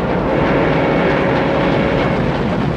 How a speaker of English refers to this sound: At the front of the speeding train, the rails stretch across a narrow bridge over a ravine.